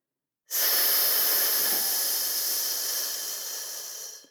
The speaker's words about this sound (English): Breathe in from your abdomen and push the air out with a hiss.